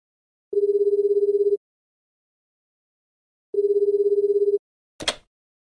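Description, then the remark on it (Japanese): A telephone rings twice, each ring a steady trilling tone lasting about a second with a pause between, followed by a brief click as the receiver is picked up. “まあ、というわけでですね、最後に冒頭で説明しましたような電話が来た場合どうすればいいのかと、この本を参考に私が考えてみました。”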